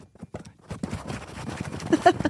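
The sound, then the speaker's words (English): Scratching on a bedroom door at 3 to 5 o'clock in the morning, by a female animal trying to get the door to pop open: a rapid, uneven run of rough scraping strokes that starts faint and sparse, then grows denser and louder toward the end. “She is scratching the door until she can get it to pop open.”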